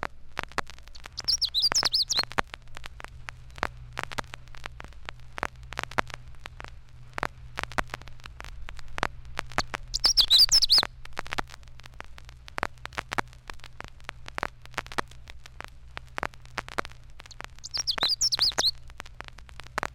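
Three short, bright warbling bursts of Canada warbler song, each a quick jumble of high notes, spaced several seconds apart over a steady low hum and faint crackle.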